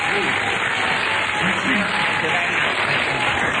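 audience cheering and applause

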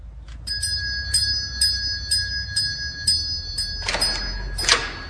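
doorbell ringing

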